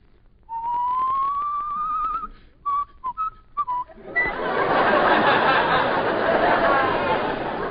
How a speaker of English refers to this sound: and from the Gulf Stream comes the whistle of the south winds.